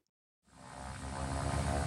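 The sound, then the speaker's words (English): A small propeller plane, flying back and forth along the Georgia coast on a winter day while researchers search for North Atlantic right whales, drones in after a moment of silence, its steady engine hum swelling louder as it passes overhead, with no voices. “This is the sound from a small plane flying back and forth up and down the Georgia coast one winter day 3 years ago.”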